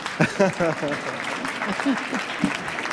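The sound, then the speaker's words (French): Steady audience applause for Joséphine Bacon, a dense crackle of many hands clapping throughout, with a few voices briefly rising above the clapping. “Vous pouvez applaudir, hein, Joséphine Bacon.”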